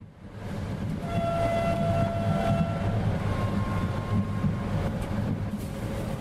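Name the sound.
train travelling on rails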